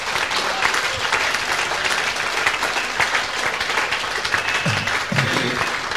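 An audience applauds the Lord during worship, with dense, steady clapping filling the whole six seconds at an even loudness and a few faint voices surfacing briefly near the end.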